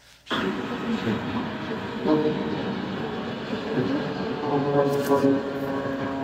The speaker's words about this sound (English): And let me just give you one more confirmation on that, because there was a Japan Air 787 that landed in an emergency with the rat deployed, so you can hear one because you can see this clearly. So let me run that for you and listen to it.